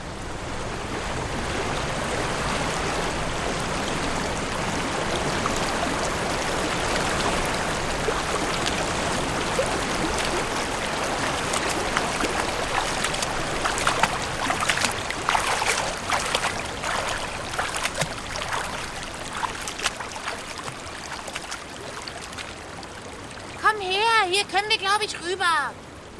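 River water flows steadily, a continuous rushing wash with occasional splashy surges, joined near the end by a short warbling call.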